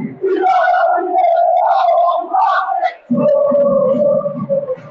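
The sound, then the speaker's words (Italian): Napoli Basket fans chant and cheer in unison during the interval of a basketball game, a loud, sustained roar of many voices that dips briefly, then swells again. “Intanto possiamo dire che sostanzialmente i tifosi del Napoli Basket non si fermano neanche nell'intervallo.”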